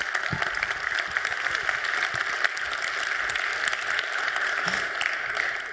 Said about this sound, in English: So please welcome Andrea with a big, warm round of applause and enjoy this talk.